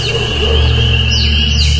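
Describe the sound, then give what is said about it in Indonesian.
Faint peeping of a baby chick on a mountain, heard fairly far off: a few thin high chirps rising in pitch over a steady low droning hum, with no voices. “jelas ini suara anak ayam.”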